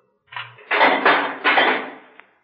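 A key clicks in a lock, then a heavy metal jail door scrapes and grinds open in a few rough pushes, ending with a sharp clink, close and fairly loud.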